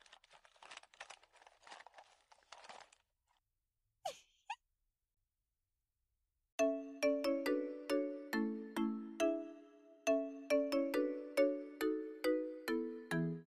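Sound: smartphone ringtone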